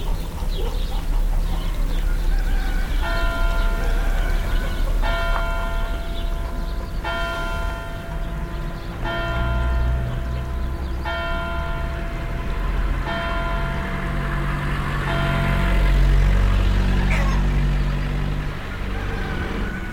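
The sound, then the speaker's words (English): Church bells toll at a steady pace, a strike roughly every two seconds, on a morning in Serre-Marie, an agricultural town southeast of Lyon, ringing out over a constant low rumble of passing cars, trucks and tractors in an outdoor setting. “Church bells ring, cars, trucks, and tractors are on the move, and roosters, birds, and dogs join in the mix.”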